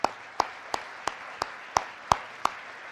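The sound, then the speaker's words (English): Applause for the five pitchers of a pitch competition, heard as a run of eight sharp, evenly spaced claps in a steady rhythm, each crisp and bright, over a faint background hiss with no talking. “Can we give a round of applause to all the pitchers one more time?”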